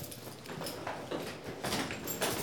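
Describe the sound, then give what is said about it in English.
A locked door in a hallway of the Orofino Correctional Institution being opened by a deputy warden, with a series of soft clattering, scraping bursts from the latch and hinge over a couple of seconds, not loud, and no talking. “Let me get that door.”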